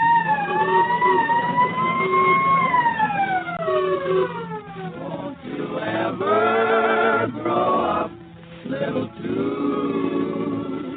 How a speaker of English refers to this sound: Fire engines came running and there was much excitement.